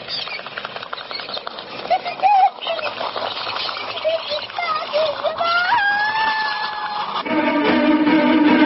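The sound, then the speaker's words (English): A frantic flurry of flapping wings and agitated bird calls, with rising whistled cries cutting through a dense, continuous rush of sound as small garden birds scatter in alarm from a sparrowhawk diving at them. “It's circling, it's a sparrowhawk. It's seen my birds. It's coming down. It's diving at them.”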